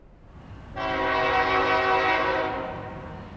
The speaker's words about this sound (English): A little more than 10 yards from the Earlington, Kentucky City Hall, a steady stream of freight trains roll by, punctuating the quiet afternoon with blasts from their horns.